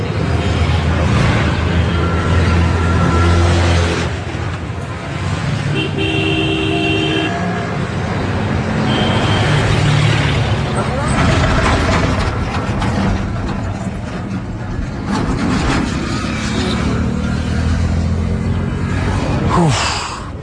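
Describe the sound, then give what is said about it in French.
Dense, continuous noise of a traffic jam with engines rumbling and several car horns honking intermittently, steady and loud throughout, with brief murmurs of voices now and then. “On a fait au moins une heure et demie de voiture dans des embouteillages à travers des lits.”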